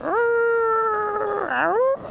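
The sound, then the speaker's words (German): A dog howls in one long, sustained wail that sounds like a small wolf, rising, holding steady, dipping and swooping back up, loud with no one talking. “Aber ich höre einen Hund, aber nicht zu knapp hier. Der jault aber ganz schön rum. Hört sich an wie ein kleiner Wolf.”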